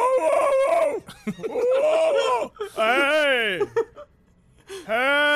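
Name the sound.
men imitating dogs barking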